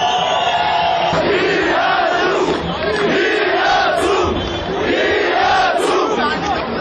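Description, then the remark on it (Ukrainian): A large crowd protesting an electricity price rise in Yerevan chants "We are together" in unison, loud and sustained, with rhythmic swells of many voices rising and falling in repeated phrases over a dense roar of shouting. “Ми разом, скандували протестовці.”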